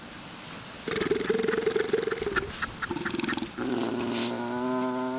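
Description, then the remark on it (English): Loud, overlapping calls from a crowd of fur seals in the Bering Sea village of St. Paul, Alaska: harsh barks and bleating cries layered together, continuing steadily with a constant background murmur. “Their barking echoes from nearly every corner of the Ununga village.”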